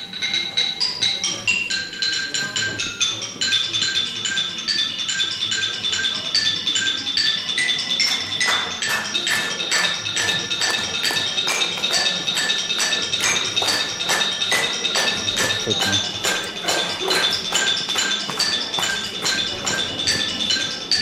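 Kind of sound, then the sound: xylophone playing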